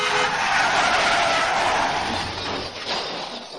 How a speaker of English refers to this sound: I pulled out to the right and stepped on it. She screamed. I never saw the culvert wall. It was a crash and everything went black.